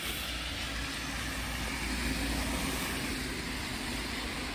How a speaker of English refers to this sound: Damn it. Too many cars.